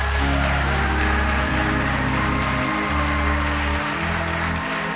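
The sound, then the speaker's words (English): An audience gives a hand clap of praise with steady, dense hand clapping, while sustained low organ or keyboard chords hold underneath throughout. “Come on, give them a hand clap of praise.”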